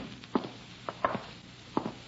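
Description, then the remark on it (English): A window blind or shade in a bedroom knocks against a wall in four irregular, hollow taps over about two seconds, faint and dull, with quiet background hiss and no voices. “Sounds like the window shade or a blind banging against the wall.”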